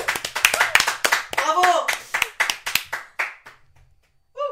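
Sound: clapping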